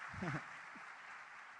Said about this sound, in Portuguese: Agora, dê uma salva de palmas para eles. Deus abençoe.